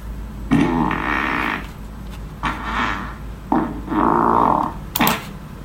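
A loud, drawn-out fart rasps and sputters, followed by a few more buzzing bursts of varying length, ending in a short sharp blast.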